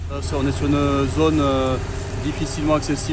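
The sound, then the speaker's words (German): A fire truck's engine idles with a steady, low rumble that runs throughout, while a person talks over it. The fire truck is on a narrow forest track, heading to a forest fire with white smoke. “Und je näher das Feuerwehrauto der neuen Brandstelle kommt, desto dichter wird der weiße Rauch.”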